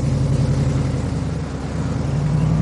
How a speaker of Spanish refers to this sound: Doc pasa en furgoneta y descubre a Bob en la manifestación. Tras unos segundos para el automóvil, da marcha atrás.